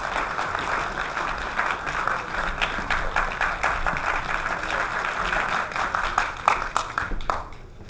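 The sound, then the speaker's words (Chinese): An audience of readers at a Navy lecture series breaks into sustained, steady applause to welcome the lecturer, a dense patter of many hands clapping at once that holds for several seconds before tapering off abruptly at the end. “下面我们就用最热烈的掌声有请白老师。”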